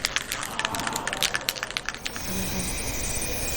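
A spray can is shaken in quick, clacking rattles for about two seconds, then a steady, loud hiss of spray paint streams out until the end.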